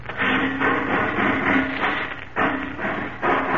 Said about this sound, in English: Sounds like he's ripping off another door. Must be the vault.